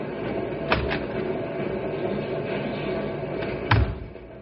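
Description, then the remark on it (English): A door at a dynamite plant opens with a couple of sharp clicks, then closes a few seconds later with a solid thud, all over a steady background of whirring machinery noise. “Sure, right out this door.”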